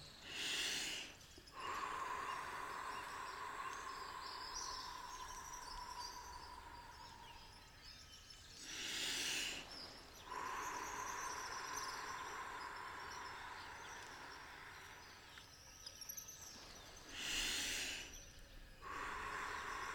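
Slow, airy breaths of a guided breathing exercise, each a deep inhale through the nose and a long, slow exhale through pursed lips, rush in and out three times, roughly eight seconds apart, over a steady bed of chirping birds and insects, with no one speaking.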